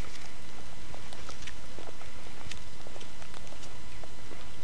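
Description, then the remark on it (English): Steady crunching footsteps on squeaky, packed snow, fairly loud, with a slightly irregular walking rhythm and no voices. “Squeaky snow.”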